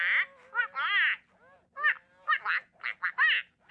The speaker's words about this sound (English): When the child attaches the port and the duck goes quack, quack, quack, quack, quack, quack, quack, quack, they say, well, what do you think the duck just said? How do you think he's feeling about that